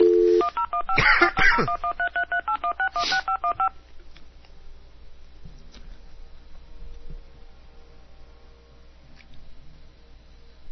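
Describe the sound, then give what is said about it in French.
A rapid run of telephone keypad dialing tones as a phone call is placed, a dozen or so short evenly spaced beeps lasting a few seconds, clear, followed by quiet background noise. “Petit téléphone en ligne programmé à quelque part là-dedans.”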